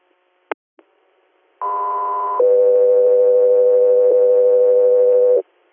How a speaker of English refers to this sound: Better Air, stand by for tones.